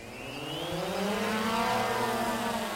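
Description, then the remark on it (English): A crop advisor launches an agricultural drone in a farm field; its rotors whine up to speed, the buzzing pitch climbing as it lifts off, then holding a steady, loud hum for a few seconds with no voices. “a crop advisor launches the newest advance in farm equipment, a drone.”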